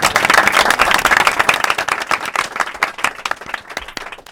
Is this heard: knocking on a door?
no